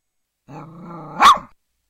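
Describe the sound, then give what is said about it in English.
A dog gives a low, rumbling growl that rises into one sharp, loud bark, with silence before and after and no talking. “I like to bark, howl at the moon, go to the park and sleep all afternoon.”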